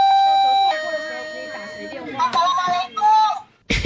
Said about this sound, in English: Even my doorbell is grumpy.